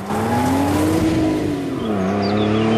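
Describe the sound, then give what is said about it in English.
A car engine revs hard and accelerates as the car darts off down a road, its droning pitch climbing, dipping briefly, then rising again. It stays loud for the whole few seconds, with no voices. “The car waits for a moment, then darts off into the distance.”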